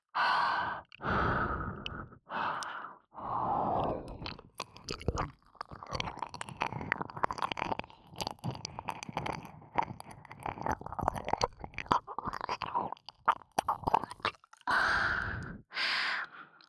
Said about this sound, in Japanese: 私の吐息、耳にかかるの気持ちいいんでしょう。もっと吹きかけて、頭の中、トロトロにしてあげる。